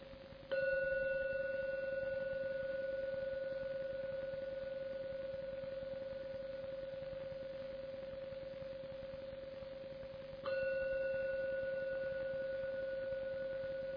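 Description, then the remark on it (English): A meditation gong, rung three times to end a meditation, is struck and rings with a steady, humming tone that fades slowly, then is struck again about ten seconds later and keeps resonating. No one speaks. “To end the meditation with the 3rd sound from the gong.”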